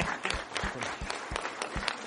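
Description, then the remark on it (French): An audience in a hall applauds with dense, steady clapping, individual sharp claps popping out above a continuous rustling wash of hands throughout, marking the fourth anniversary of the founding of the association Caton. “Ça vaut des applaudissements d'anniversaire, je pense.”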